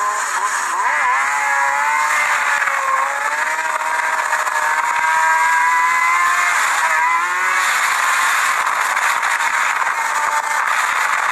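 A loud motorcycle engine revs hard, its pitch climbing and dipping through gear changes in a continuous roar that fills the whole stretch, with no voices, as a man rides a street bike along a street with people walking around.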